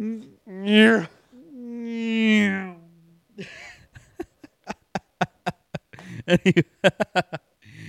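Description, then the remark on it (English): A person's voice imitates a cat, giving two drawn-out, wavering meow sounds, followed by a run of quick, sharp clicking bursts that speed up toward the end. “It sounded like he's going, meow.”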